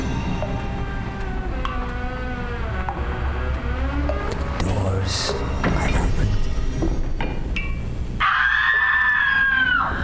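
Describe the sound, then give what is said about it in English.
Wailing, drawn-out screams rise and fall amid a dense, reverberant rumble inside a large chamber of a cave, with one shrill cry cutting in near the end. “Very clearly this time, I heard those screams.”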